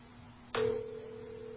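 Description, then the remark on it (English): A telephone line clicks open as a phone call is placed, and a steady, continuous electronic tone follows, clear over a faint background hum. No one speaks. “So let's see if we can get her on the phone.”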